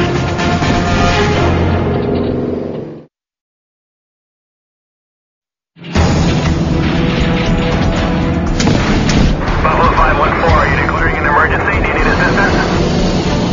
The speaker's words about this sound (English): Northern Manitoba, noise from the left engine on a Buffalo C-46 has the crew on high alert. Leaving sanitary support to head back to Thompson and the left engine just started doing the...